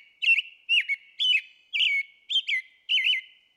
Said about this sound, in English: And you said it's part of the thrush family. Does that have anything to do with how beautiful its song is? Yes. So thrushes are really known for their music, their songs that they make.